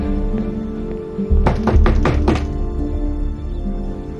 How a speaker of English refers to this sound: She walks up the front door and knocks.